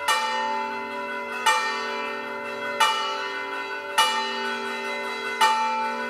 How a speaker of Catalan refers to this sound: Com van girant les campanes, és un toc de campanes característic que es diu la Barram. Encara que et costi de creure, reuneix també no milers de persones, però sí centenars de persones a la plaça Santa Maria per veure com giren les campanes.